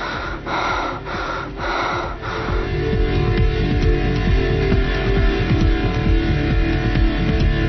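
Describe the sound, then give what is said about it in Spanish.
Heavy breathing with a few quick rhythmic inhales and exhales at first, then a steady, noisy rush of air that continues loudly to the end, with no voices. “Es la respiración.”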